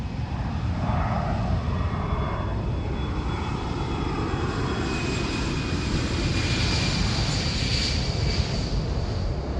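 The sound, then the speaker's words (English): A steady, loud airplane engine drone fills the cabin after nearly 15,000 kilometers of flight, a dense low rumble with a faint high whine on top, continuous and unchanging with no voices. “After nearly 15,000 kilometers in the air, something is changing.”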